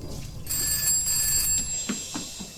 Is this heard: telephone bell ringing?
yes